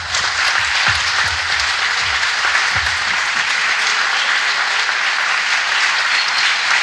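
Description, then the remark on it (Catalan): Sustained audience applause, given in thanks to a group of contributors, a dense, steady wash of many hands clapping at an even loudness for several seconds, with no one speaking over it. “Així que, nois, moltes gràcies i aquest aplaudiment també va per vosaltres.”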